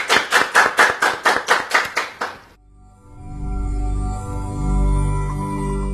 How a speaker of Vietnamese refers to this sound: Xin chào mừng và chúc mừng một tràng pháo tay nồng nhiệt anh chị em.